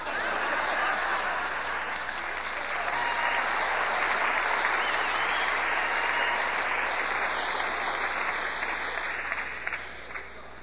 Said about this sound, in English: You know, if you all ever get your applause together, it might go better.